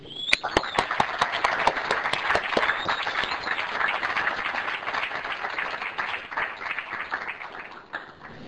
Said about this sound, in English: Please join me in welcoming them with a roaring round of applause.